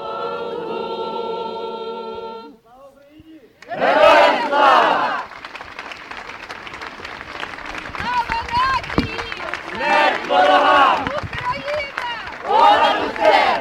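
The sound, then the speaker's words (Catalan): A sustained tonal note gives way to a crowd at a rally for Ukraine in front of Olot town hall erupting in loud, repeated shouts for freedom in several bursts, with clamorous voices and a busy rumble of activity between the peaks. “La convocatòria s'ha fet a nivell nacional i sota el paraigua de l'Associació Catalana de Municipis i ha acabat amb un crit a la llibertat i un missatge de fortalesa, com és l'himne d'Ucraïna.”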